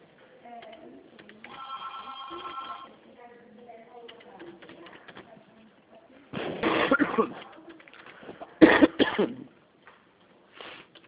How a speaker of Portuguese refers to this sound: Cuidado com coronas, hein? Eu sei, tô tossindo, né? É que eu tomei chuva essa semana.